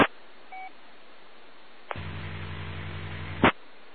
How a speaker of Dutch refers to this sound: Ja, dat is een draaggolf met een 50 hertz brom. Verder geen informatie al daarop.